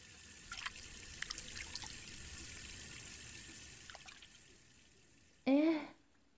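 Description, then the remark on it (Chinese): Shower water runs in a bathroom in a steady, soft hiss with a few small clatters and drips, then a brief loud rising squeal cuts in near the end before the sound drops away. “卫生间有淋浴，你热的话就冲个凉。”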